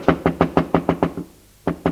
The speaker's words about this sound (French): Deux heures plus tard, la bonne frappa à ma porte